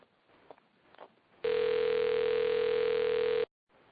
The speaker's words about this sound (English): Hello? My phone's ringing. Hello?